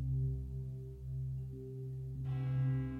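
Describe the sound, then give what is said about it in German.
A large bell tolls the eleventh hour, its deep ringing hum sustaining before another clear stroke rings out near the end. No voices, just the resonant bell sound. “Kaum war der 11. Glockenschlag verhallt, stieg die weiße Prinzessin aus dem Bett heraus und verwandelte sich in einen Drachen.”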